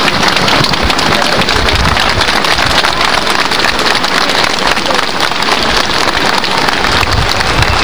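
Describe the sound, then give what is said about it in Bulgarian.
Bulgarian police officers applaud in an ovation for an interior ministry official arriving among them, a dense, steady wash of clapping that stays loud and even for the whole stretch, with no clear individual claps standing out and no pauses. “При появата си сред пушещите полицаи, той бе посрещнат с овации.”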